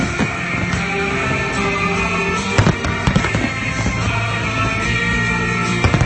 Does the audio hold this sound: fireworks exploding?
yes